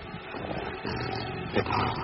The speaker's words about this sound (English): What is that? A sheepdog or something.